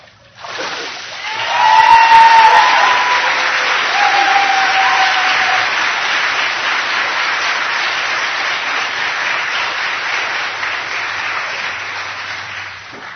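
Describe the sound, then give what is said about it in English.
A church audience at a morning baptism service breaks into loud, sustained applause for Jesus Christ, a dense wash of clapping that swells quickly and holds steady for over ten seconds, with a few brief voices calling out early on. “Let's give a rousing applause to our Lord and Savior, Jesus Christ.”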